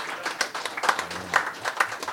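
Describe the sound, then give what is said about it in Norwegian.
A brief burst of applause: a few people clapping in quick, uneven bursts, crisp and moderately loud, with a faint low murmur underneath. “Applaus.”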